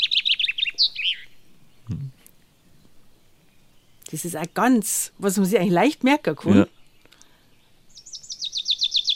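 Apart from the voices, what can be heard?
common chaffinch song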